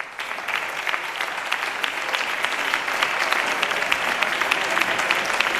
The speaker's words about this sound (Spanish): Son los aplausos a la voz del presidente del Parlamento andaluz, Juan Pablo Durán, leyendo el resultado del debate final de la Ley Audiovisual de Andalucía, que ha sido aprobada por unanimidad en la Cámara Andaluza.